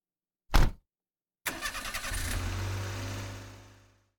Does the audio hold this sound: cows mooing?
no